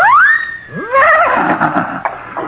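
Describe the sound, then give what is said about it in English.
A loud horse whinny rises sharply, then a second quavering neigh follows and trails off into a rough, breathy fade, with no voices present. “Well, how about everyone having his own horse, and then we'll gallop all the way.”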